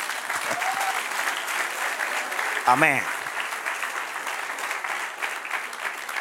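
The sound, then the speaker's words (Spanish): An audience applauds steadily for several seconds, answering a call to applaud God's sovereignty during a Spanish-language sermon: a dense, even clatter of many hands, while a single voice calls out briefly partway through. “Denle un aplauso a la soberanía.”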